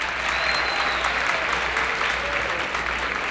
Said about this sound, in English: So nice to have you, gentlemen. And while you're applauding, keep it up, all the way from Hollywood, California, a nice warm welcome for our piano player,